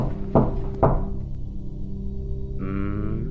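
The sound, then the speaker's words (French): Two solid knocks on a door, spaced about half a second apart, over a low droning musical background that swells with a brighter tone near the end. “Quand on toque, il faut ouvrir tout grand.”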